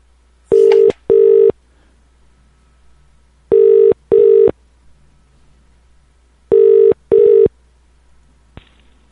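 A telephone ringback tone sounds in three evenly spaced double rings as someone calls a woman back, each pair of loud electronic trills followed by a pause, heard clearly with no one speaking.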